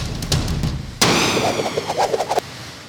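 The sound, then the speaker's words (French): A single loud cannon blast bursts out suddenly as a penguin carrying a message is catapulted from a cannon, followed by a roaring, whooshing rush that carries on for over a second before cutting off, with a low rumble beforehand. “On chope un pingouin, on lui attache le message, on le met dans le canon et on le catapulte.”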